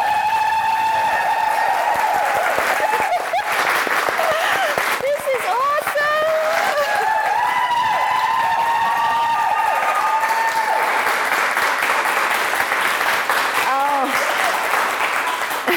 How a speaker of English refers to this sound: And I'm actually really excited because we've got a live studio audience. So everybody, clap and yell as loud as you can.